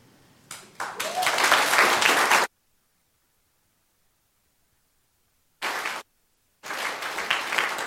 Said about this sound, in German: Bleibt noch ganz kurz da. Das ist euer Applaus, da dürft ihr stehen bleiben.